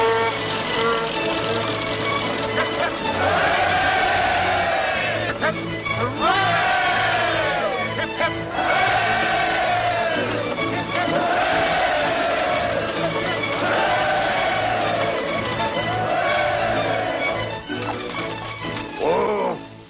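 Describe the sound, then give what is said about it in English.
A crowd cheers and hollers loudly and continuously for the Reverend Mr. Playfair, with many voices rising in repeated whooping swells over a steady low rumble of chatter for the whole stretch. “Playfair, good man that he is, comes down, I want you all to cheer like Protestants.”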